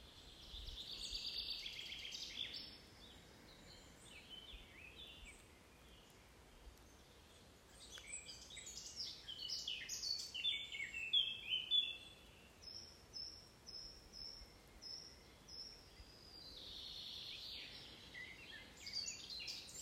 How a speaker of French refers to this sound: Toujours en compagnie des oiseaux.